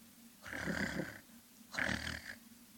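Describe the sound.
A person imitates a raccoon's throaty trill, two rough, purring bursts of under a second each with a short pause between, fairly loud, somewhere between a growl and a purr.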